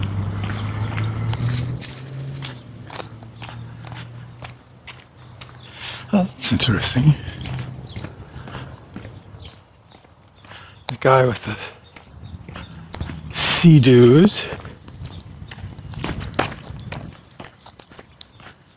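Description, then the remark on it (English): Steady footsteps crunch along outdoors in an even walking rhythm, with a man briefly talking over them and a few louder tonal bursts breaking in partway through. “I'm walking and not talking again, aren't I?”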